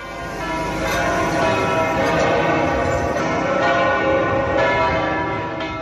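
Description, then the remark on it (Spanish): The bells of the Almudena cathedral peal continuously, ringing 192 times, their overlapping strikes forming a dense, ringing wash of tones that stays loud and steady throughout, with no voices present. “Además, las campanas de la Almudena también han repicado 192 veces.”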